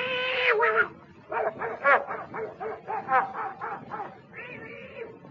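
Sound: dog barking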